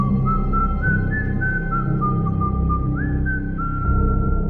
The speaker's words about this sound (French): Le siffleur joue toujours la même mélodie. Et ce qui la rend encore plus dérangeante, c'est qu'elle est joyeuse.